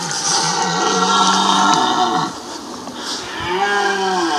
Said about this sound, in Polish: Często, jak mówi, nagrywa filmiki przyrodnicze, dlatego zechciał podzielić się z nami nagraniem, które zarejestrowało dźwięki odbywającego się rykowiska.